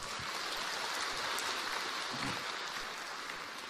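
A crowd applauds in a dense, steady wash of clapping that holds at an even, fairly loud level for several seconds, with no voices over it.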